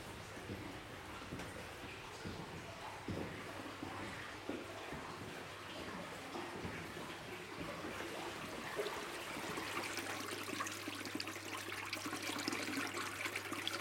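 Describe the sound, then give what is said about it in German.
A small brook babbles and gurgles steadily, its water splashing over stones in a continuous rush with no voices present. “An diesem Bächli mit seinem fröhlichen Plaudern bleiben wir einen Moment lang stehen und hören den viel stimmigen Wassertönen zu.”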